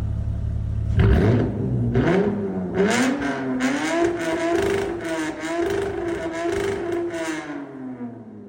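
A car engine revs hard, pitch climbing steeply to a high sustained scream near redline before easing off, loud with no talking.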